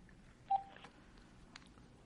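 A telephone being dialed as Nate Diaz calls a yacht salesman: one short, mid-pitched keypad beep, then a few faint clicks over low background hiss, with no voices.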